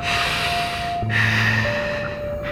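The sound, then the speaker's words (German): Steady breathing through a diver's regulator while diving in an old mine, a long hissing inhale and exhale with muffled, watery resonance and a faint low hum underneath; no one speaks. “Und immer gleichmäßig atmen.”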